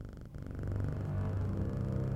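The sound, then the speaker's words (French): A cat purrs steadily, a low continuous rumble with a soft rhythmic pulse that holds at an even level throughout, with no voices. “c'est la gamelle de Pimousse. Pimousse? Le cul Pimousse. Le chat.”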